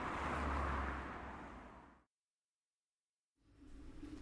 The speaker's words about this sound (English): But there's too many cars.